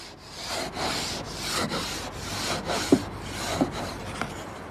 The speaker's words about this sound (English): scrapes ice off his car's rear window.